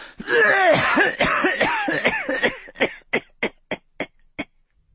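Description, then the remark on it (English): A man leaning on his staff in a doorway gives a long, wet fit of wheezing coughs, rapid and tangled at first, then tapering into a string of separate, fading hacks. Raspy whistling tones run through the early bursts. “He paused, leaning on his staff in the lit oblong of the doorway, and announced his arrival with a long fit of wet, wheezing coughs.”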